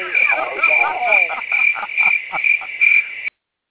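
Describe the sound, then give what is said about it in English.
A steady, high-pitched cricket chirping pulses in a quick, even rhythm for about three seconds, fairly loud, with a brief voice underneath at the start before it cuts off abruptly. “I had to get myself the crickets on that one.”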